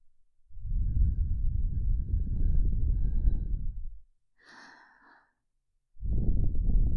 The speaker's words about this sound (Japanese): このあったかい吐息のぬくもり、たまりませんよね。